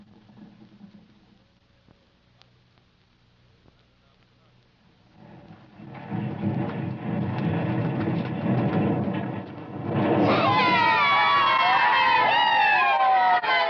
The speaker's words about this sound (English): Wasting your breath cheering about it. That's just one of these boulders. Now, come on, get to it.